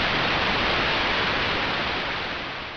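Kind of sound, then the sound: sound effect, static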